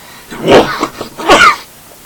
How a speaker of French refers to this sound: C'est un éternuement.